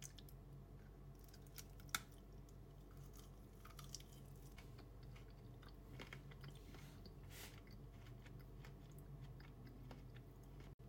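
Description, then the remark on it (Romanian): Chewing of frozen dark-chocolate-coated berries during a taste test, with irregular crunches and soft squishy bites over a steady low background hum, one sharper crack standing out early on. No one speaks. “Taste test.”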